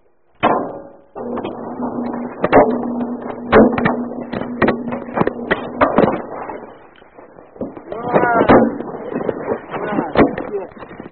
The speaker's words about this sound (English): I'm going to put, the phone is going to go inside the dryer, and I'm going to turn it on. You tell me what you hear, okay? Okay. Let's see what happens here. Hang on. All right, it's in.